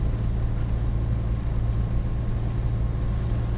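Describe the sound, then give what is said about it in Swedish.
The small 28-horsepower engine of a Citroën 2CV hums steadily while driving in fourth gear on the Gudebroleden, a low, even drone with a constant rumble of road noise and no breaks or gear changes. “och nu trampar vi gasen i botten på tvåan och i med trean och trampar vi gasen i botten på trean kommer vi upp i de lagstadgade 70 och så får vi i fyran och glider lugnt och mjukt och fint med vår lilla 28 hästars motor fram.”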